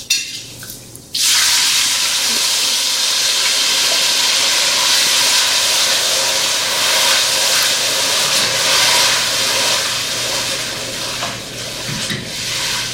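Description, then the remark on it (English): Diced tomatoes hit a hot pan and erupt into a loud, steady sizzle, a dense hissing roar that holds for over ten seconds after a brief quieter moment at the start. No one speaks. “Okay, now I'm going to add the diced tomatoes.”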